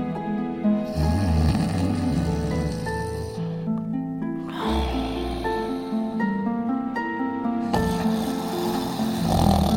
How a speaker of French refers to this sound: Il compta et recompta ses pièces en soupirant d'aise, puis il s'endormit en ronflant bruyamment.